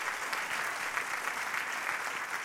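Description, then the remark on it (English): An audience claps for the Lord in a dense, steady wash of applause, many hands at once with no clear rhythm, sustained at an even loudness for a couple of seconds. “Give the Lord a big clap.”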